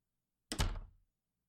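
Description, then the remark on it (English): A single heavy thunk of a door being shut and locked, fairly loud, with a short rattling decay and silence on either side. “I'll cut the lights, and I'll make sure that the door is closed.”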